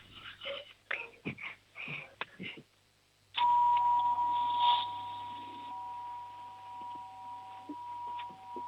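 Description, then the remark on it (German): An 8-year-old girl from Weiz in Styria, Austria, imitates a doorbell: a run of short, choppy vocal bursts, a brief pause, then a long, loud, steady ringing tone held for several seconds. “Machen wir mit der Türklingel weiter.”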